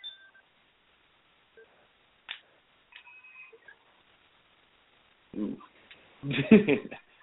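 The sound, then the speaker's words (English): A telephone switchboard sound effect: scattered electronic beeps and short dial-tone chirps sound in an irregular sequence, before voices break in loudly near the end. “The phones are lighting up.”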